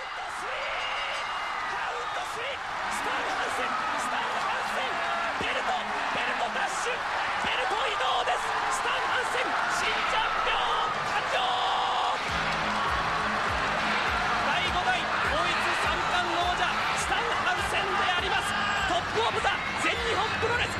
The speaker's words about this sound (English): You hear the fans singing Hansen's music and chanting his name.